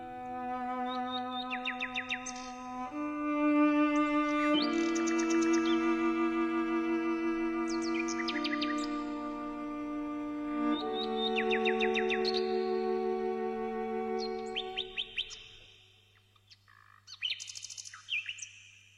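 A nightingale sings bright, trilling phrases over a low, sustained cello melody, the bird's rapid chirps weaving in and out of the long bowed notes. No one speaks.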